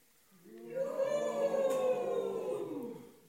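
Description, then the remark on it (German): A group of voices joins in one long sustained tone, starting slightly scattered before merging into a steady shared pitch that swells and then fades out after about three seconds. “Wenn ich gleich die linke Hand hebe, gebt ihr auch alle einen Ton von euch und habt aber die Aufgabe, in einen einzigen Ton einzustimmen.”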